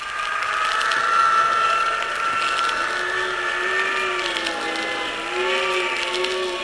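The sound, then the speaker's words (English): A loud, steady roar of wind in a wind tunnel, battering a full-sized plane during a test, rushes without pause, with droning, whining tones that waver and slowly shift in pitch beneath the broad hiss. No one speaks. “It's a full-sized plane, and yet that wind is tossing it around like it was a cork almost.”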